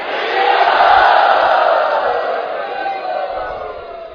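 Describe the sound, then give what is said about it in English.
A crowd chants "Hari Bol" together to thank the god Indra for the rain, one loud, sustained burst of many voices, holding steady for about two seconds before gradually tapering off. “Let us thank Indra by chanting Hari Bol.”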